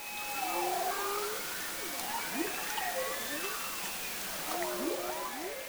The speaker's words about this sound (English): As George stands looking out at whale-free water, this is what it sounds like under the surface.